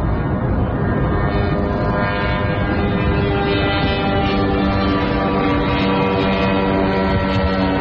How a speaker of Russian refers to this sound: Еще один дрон.